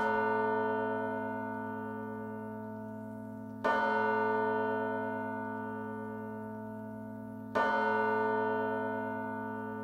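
Deep, resonant bell strikes ring out three times at steady intervals, each one blooming with rich overtones and sustaining into a long, slowly fading hum before the next toll; the bells were sampled and slightly reworked for a song's intro.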